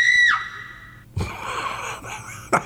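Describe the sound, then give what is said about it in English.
A loud, high-pitched scream holds steady, then drops off sharply, followed by a second or so of ragged, breathy gasping and rustling, with a short sharp burst near the end. “That's a great scream.”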